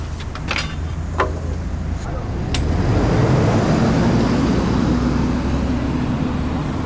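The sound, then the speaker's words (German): Outdoor ambience at Halensee S-Bahn station, with a few sharp clacks early on, then an S-Bahn train rolls past, building into a steady rumbling roar with a faint whining hum running beneath it. “S-Bahnhof Halensee.”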